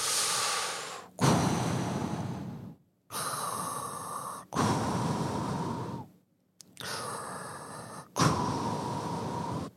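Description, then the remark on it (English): Loud breathing through a snorkel tube held in the mouth: about three slow cycles of hollow, rushing inhales and exhales separated by short pauses, with no talking. “And then, while all of this is happening, they give us that thing that you got to put in your mouth. You know, that you stick it in your mouth, and it's like a tube. And you start breathing.”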